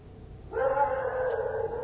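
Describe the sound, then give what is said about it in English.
A dog lets out a single sustained howl that starts abruptly and holds a steady, whining pitch for over a second, clear over faint background noise, with no talking. “Doggy signal.”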